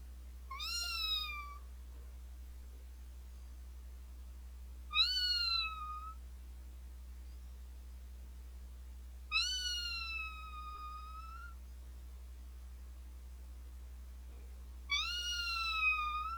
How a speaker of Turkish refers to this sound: Şey, bir de şu miyavlamanın sonunu uzatır mısın böyle böyle gibi.